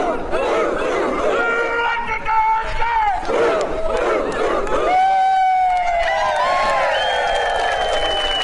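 A large crowd from a community group at a group photo shoot chants a rallying cry in loud unison, many voices overlapping in drawn-out, rising shouts that carry on without a break for several seconds.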